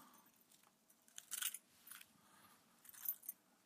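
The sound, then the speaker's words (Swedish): A bunch of keys, including home and car keys, jingles as it is picked up, a few bright metallic clinks in short bursts, fairly quiet, with no one speaking. “Jag har en nyckelknippa där någonstans för att bara under dig där, mellan dina vackra röda skor.”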